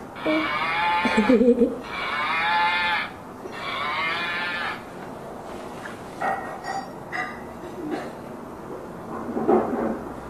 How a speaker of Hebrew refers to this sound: מה זה? פרה?